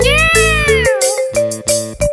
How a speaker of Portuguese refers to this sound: O gato faz miau, cachorro faz au au, piru gulu gulu, e a vaca faz bu.